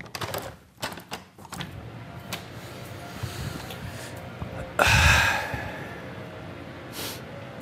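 A series of sharp clicks and rattles as a window is pulled open during a break in a test, followed by one loud, deep breath drawn in, then quiet with a soft breath near the end.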